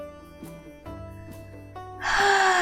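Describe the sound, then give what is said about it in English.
Soft sustained musical tones play, then a loud, deep breath of fresh air drawn in sharply through the nose and mouth near the end, airy, lasting under a second. “sang …, breathing in a breath of fresh air”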